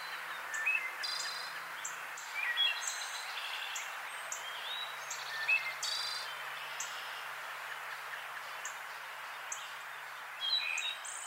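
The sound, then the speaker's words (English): A wood thrush sings short, flute-like phrases spaced a few seconds apart, set against a steady wash of insect buzzing in a quiet outdoor scene. “It's a wood thrush.”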